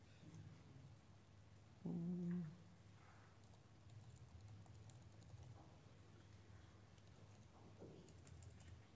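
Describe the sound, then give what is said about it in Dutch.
Quiet, steady typing on a computer keyboard, a loose patter of soft clicks running throughout, with a brief louder tonal sound near the start. “Nou, is het toetsenbord erg ingewikkeld ingesteld?”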